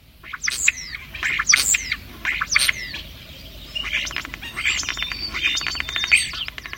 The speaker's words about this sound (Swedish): Nu har vi kommit ut på jordbruksmarken i Tyresta by. Och vi möter helt andra fågelröster. Till exempel staren som du just nu hör.